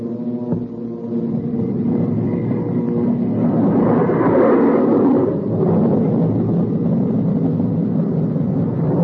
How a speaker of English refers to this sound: When the B-29 hit 225 miles per hour, Captain Mayo and the B-29 pilot had a short conversation. Then Captain Mayo switched on our jet engine.